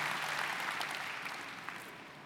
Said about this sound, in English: We may not have the strength of Caleb, but we have the strength to give glory to God through a clap offering. Amen? And that's what he truly deserves.